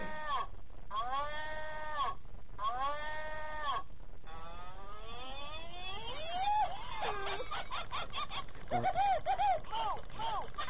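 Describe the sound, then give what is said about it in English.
A man's recorded voice in a novelty gift imitates a cow, giving several drawn-out, wavering moos in a row, then breaks into choppy bursts of laughter near the end; fairly loud. “It's some guy's voice. And this guy thinks he makes a good cow sound.”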